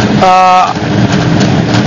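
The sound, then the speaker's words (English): A brief, high squeal rings out over the steady rumble of a 1990 rally car, the rattly noise from its shock absorbers continuing fairly loud to the end. “It makes some noise in the... This is the shocks, yeah?”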